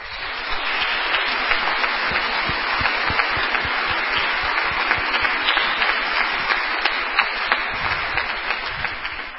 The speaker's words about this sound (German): dürfen wir ruhig mal klatschen.